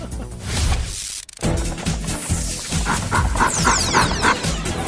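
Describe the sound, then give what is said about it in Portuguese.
A dog pants and barks in the woods, its breathy huffs and short yaps mixed with rustling outdoor noise, without a quiet break for most of the few seconds. “Olha meu cachorro.”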